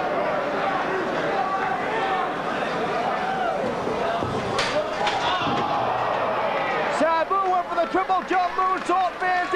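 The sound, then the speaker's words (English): Wrestler Sabu is slammed face first into a steel chair during a wrestling match, a sharp crashing impact midway through, with a loud commentator talking excitedly over steady crowd noise. “The chair, Sabu face first into the steel chair.”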